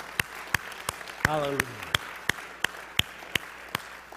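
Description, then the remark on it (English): A church audience claps in a steady unison beat, about three sharp claps per second over a murmuring background, giving the Lord a big clap at the close of a morning service, while a voice calls out briefly partway through. “Let's give the Lord a big clap this morning.”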